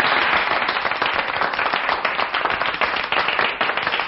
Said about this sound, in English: Gentlemen, thank you for your generous applause.